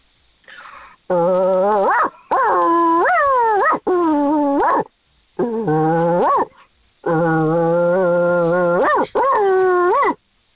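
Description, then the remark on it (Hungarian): A dog howls in a series of loud, drawn-out wails that rise in pitch at their ends. Brief pauses separate them, and the final calls are shorter and choppier, almost bark-like. “de jó volt ez a hosszú vonyító, igen. Majdnem ugató.”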